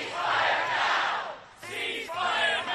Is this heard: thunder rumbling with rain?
no